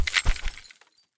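A sharp shattering crack as the hard plastic handle of a screwdriver, hurled at a wall, breaks apart on impact and sends the screw head flying, followed by a quick scatter of bright, tinkling fragments that fades out within a second.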